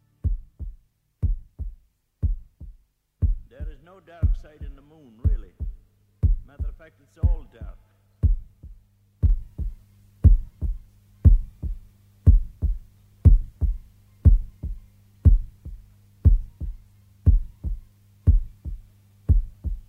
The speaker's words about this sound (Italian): E questo battito, che probabilmente tra un po' fa suonare l'allarme in radio per mancato suono